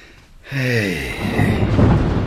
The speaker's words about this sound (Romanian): Vine o furtună groaznică pe mare.